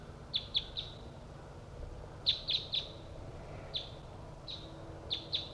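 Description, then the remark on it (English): Groups of short, high-pitched bird chirps repeat in quick bursts of two or three over a low background hiss, as decoy birds, including Bird 3-4, answer wild birds coming from the south. No voices. “Decoy and Bird 3-4 responding to wild birds that are coming from the south.”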